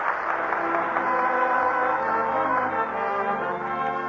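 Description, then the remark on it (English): An audience applauds steadily for about four seconds, a dense, continuous wash of clapping at an even loudness with a faint tonal hum running beneath it, at the close of a Lux Radio Theater broadcast. “That's the greatest award there is. The applause of a nation.”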